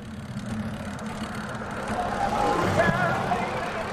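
city traffic

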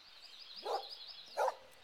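dog barking

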